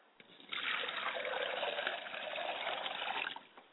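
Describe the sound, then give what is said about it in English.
Water pours steadily into a glass for about three seconds, poured as an offering to the ancestors of the father's side of the family, a continuous trickling stream that starts abruptly and tapers off, with no voices. “I also like to pour a glass of water for my father's side of the family.”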